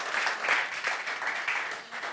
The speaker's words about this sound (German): Der Applaus ist immer gerechtfertigt.